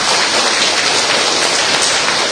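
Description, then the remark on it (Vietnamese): An audience applauds together to congratulate all who take Saint Paul the Apostle as their patron saint, in a dense, steady wash of clapping that stays loud and even for a couple of seconds, with no voices standing out. “Thưa anh chị em, Một tràng pháo tay nữa để chúc mừng tất cả những ai nhận Thánh Phaolô tông đồ trở lại để làm bổn mạng, thưa anh chị em.”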